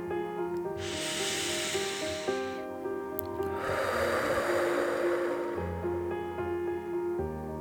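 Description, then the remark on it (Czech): A long, hissing inhale through the nose followed by a heavier, breathy exhale through the mouth, deep breaths in a guided breathing exercise, clear over soft, steady background music. “Nádech nosem a výdech pusou.”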